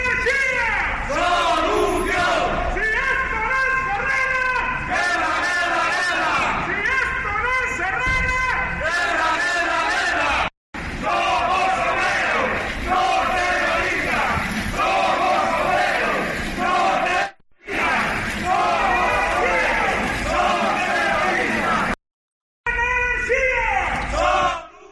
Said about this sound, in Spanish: Así suenan normalmente los gritos de Alcoa, ya estamos familiarizados a ellos, ya también los coreamos y estamos acostumbrados, son varios meses de protestas y protestas llamativas, siempre llamativas,